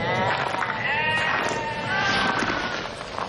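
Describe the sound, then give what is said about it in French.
A flock of about thirty sheep bleating while lying on hot earth beside a shepherd, several wavering calls overlapping one another almost continuously, fairly loud, with no voices. “Une trentaine de moutons, couchés sur la terre brûlante, se reposaient près de lui.”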